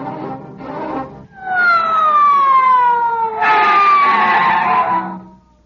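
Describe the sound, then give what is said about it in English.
A police squad car siren wails loudly, its long falling tone sweeping down twice, with a rougher burst of noise joining the second sweep before it cuts off. “All right, men, get out the squad car.”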